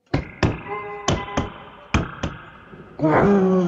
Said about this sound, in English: I have a sound of stomping of a dinosaur.